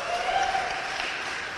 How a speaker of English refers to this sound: Hey, if you're tired of paying for a military here in 1814 that isn't even here protecting us, let's hear some applause.